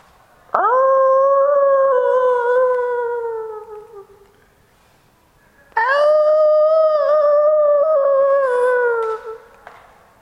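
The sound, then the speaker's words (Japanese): Two long, mournful wolf howls, each rising sharply then holding a steady, slightly falling pitch for several seconds, separated by a short pause. Loud and clear, with no talking. “時々恐ろしい狼が襲ってくるので気をつけなければいけません。”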